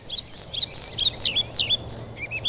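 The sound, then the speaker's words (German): A male pied flycatcher, excited because a female comes too near, gives a rapid series of high, sharp chirps, about a dozen in quick succession, fairly loud, over a low steady background hum. “Hat aber nur damit zu tun, dass ihm eine Trauerschnäpperfrau zu nahe kommt, weil die schnappt er ja nicht, um sich zu fressen, um sie zu fressen, sondern komplett aufgeregt ist, könnte ja sein, dass er die Art erhalten kann.”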